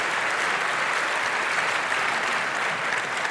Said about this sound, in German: Vielen, vielen Dank für diesen spannenden Talk. Eine Runde Applaus bitte nochmal.